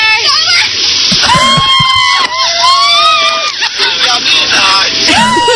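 A champagne shower: a loud, steady hiss of spraying liquid and splashing, with a crowd of people screaming and shrieking excitedly throughout, close and chaotic.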